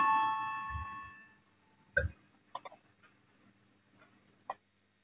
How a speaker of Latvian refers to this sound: Lūdzu, zvanu, balsosim par piekto Zaļo un Zemnieku savienības frakcijas priekšlikumu.